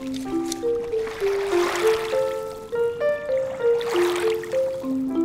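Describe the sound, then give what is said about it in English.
River water laps and sloshes around a small boat out on the Hudson River during a fishing outing, in two or three gentle swells, with a soft melodic tone running steadily underneath and no one speaking. “out on the Hudson River”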